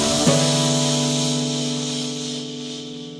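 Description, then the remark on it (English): Voices blow and whoosh to imitate wind, a long breathy hiss lasting the whole stretch with a steady low hum beneath it, slowly fading slightly toward the end. “Quick, everyone, do the wind and blow the ghost back to its seat.”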